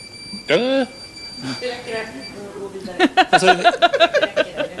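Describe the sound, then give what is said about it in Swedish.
A steady, high-pitched electronic alarm tone from a social distancing proximity alarm, a small tag used at Melodifestivalen that goes off when people come closer than 1.5 meters, set off by a PR person during an interview, sounds for a couple of seconds, then cuts off as several voices talk and laugh loudly. “Det är alltså ett avståndslarm.”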